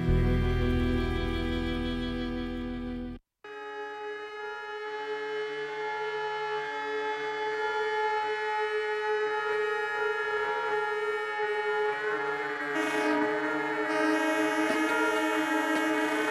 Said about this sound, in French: Larsen. Effet Larsen. Son qui s'accroche en circuit fermé.